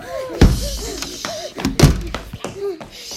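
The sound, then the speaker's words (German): Two heavy door thuds land about a second and a half apart, deep and booming, while voices talk in the background between them. “Da, die Tür.”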